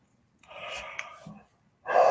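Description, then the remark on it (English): A breathy yawn drawn out for about a second, airy and voiced, followed after a short pause by another loud breath starting at the end. “See, I'm yawning.”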